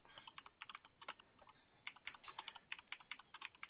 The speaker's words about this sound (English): Sorry, I'm typing.